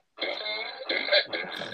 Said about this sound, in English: if a kid had this, a fart gun, you know how many times in the middle of the night I just go.